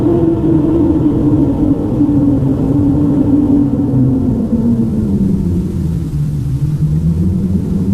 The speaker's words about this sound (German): Und dann geschah es. Plötzlich hörten sie ein Rauschen wie bei einem gewaltigen Sturm. Das ganze Haus, in dem sie sich befanden, war von diesem Brausen erfüllt.